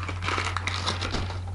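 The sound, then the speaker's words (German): Crumpled packing paper being crinkled, a continuous dense crackling and crinkling that lasts the whole moment, over a low steady electrical hum, with no voices. “Okay, es ist, ja, Knüllpapier.”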